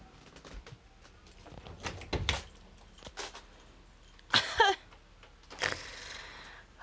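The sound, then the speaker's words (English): A door is opened for a visitor after a knock: a few clunks and rattles, then a short creaking squeak and a soft swish as it swings, with quiet shuffling around it and no talking. “Did somebody just knock on the... Oh! Alright. Hold on a second. I'm coming.”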